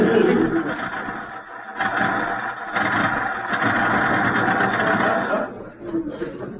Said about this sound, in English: Was that a car stopping out front? No, it was not a car.